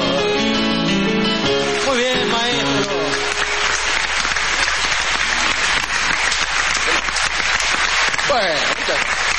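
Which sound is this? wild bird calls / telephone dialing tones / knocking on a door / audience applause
audience applause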